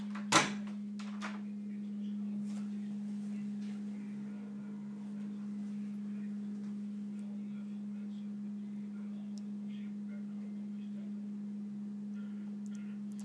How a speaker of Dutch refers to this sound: En dit geluid. Deur weer dicht. Hoor je heel vaak 's avonds. Als het lijkt alsof de ketel dan aanspringt of bij moet loeien. Heel erg irritant.